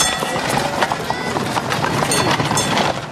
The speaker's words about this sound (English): Night in a busy city. A horse-drawn omnibus passes. Tradesmen's horse-drawn wagons rattle through the cobbled streets.